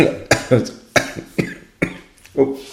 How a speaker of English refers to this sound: You're coughing. Yeah, I'll edit that bit out.